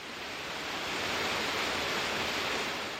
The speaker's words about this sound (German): Das unheimliche Rauschen des wilden Bergwassers, der spärlich von oben eindringende Lichtschimmer, alles vereinte sich, die Sinne zu betäuben.